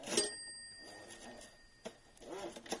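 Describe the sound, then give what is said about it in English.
A typewriter bell rings once with a bright, metallic ding that hangs in the air and slowly fades over about two seconds, with faint handling noise and soft rustling around it. “And the bell is wonderful. That's a great bell. They put good bells on these things.”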